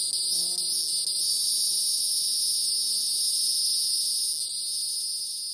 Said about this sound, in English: Let's listen to cicadas.